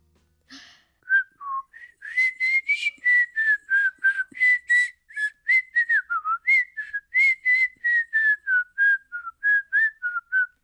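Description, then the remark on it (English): A long, unbroken run of backwards whistling, drawn in while breathing inward, a steady string of short, clear notes wavering up and down in pitch, fairly loud, with no voices. “But before we go any further, I need to talk to you more about this whistling backwards.”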